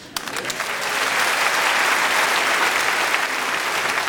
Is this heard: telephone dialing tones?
no